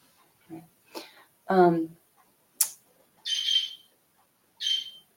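A bird sings outside in short, bright bursts, a few separate calls spaced over several seconds, with brief low vocal sounds from someone in between.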